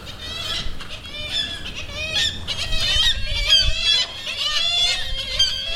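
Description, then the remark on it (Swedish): A crowd of agitated black-legged kittiwakes calling close by at their nests, upset as a microphone is brought near, harsh overlapping squawks and cries rising and falling continuously, with no talking. “De blev nog lite arga när jag gick nära med mikrofonen här.”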